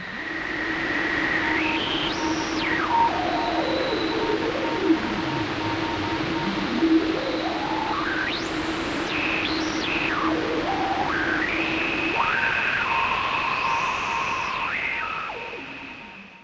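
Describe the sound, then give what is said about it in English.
A radio tuner sweeps through steady hiss, with resonant whistling tones gliding up and down in pitch, crossing and overlapping for about sixteen seconds at a constant level. No voices. “Radio tuner resonant.wave.”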